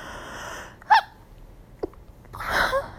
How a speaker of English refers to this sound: Oops. A little sneeze.